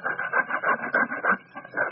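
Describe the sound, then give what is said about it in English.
Scratching at a head, a steady run of short, dry rasping strokes repeating in quick rhythm, moderately loud with no talking. “Honey, why are you scratching your head, honey?”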